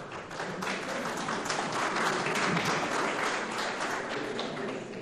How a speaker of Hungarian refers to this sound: Úgy láttam, hogy a Taps Piroskának szólt.